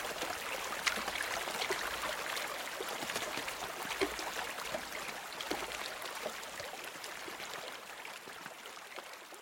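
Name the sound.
river water flowing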